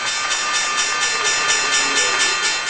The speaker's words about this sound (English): Here's the closing bell on the New York Stock Exchange yesterday.